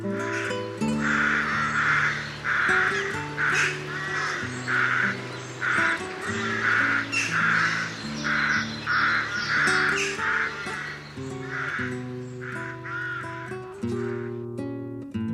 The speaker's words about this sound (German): Das war die Saatkrähe.